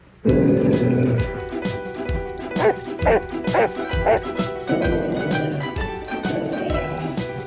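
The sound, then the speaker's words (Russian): A dog barks in a rapid run of sharp, loud yaps, mixed with low growling and whiny yelps that continue throughout. “Собака, давай хвост кусать.”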